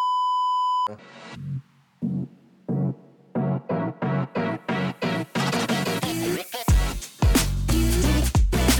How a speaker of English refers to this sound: Beep.